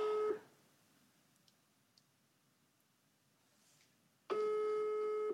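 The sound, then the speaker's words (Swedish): A telephone ringback tone: a steady electronic buzz tone heard briefly, then about four seconds of quiet before the next ring burst starts. Clear, with no talking. “men vi kan ändå ha kvar att vi ringde upp honom.”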